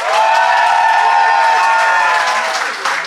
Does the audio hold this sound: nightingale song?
no